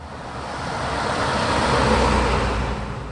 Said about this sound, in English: Traffic is calm on Boonville's quaint Main Street, but it wasn't always this way.